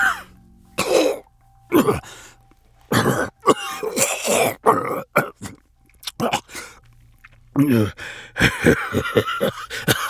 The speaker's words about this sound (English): They took a couple steps back and looked down as Zealot coughed blood.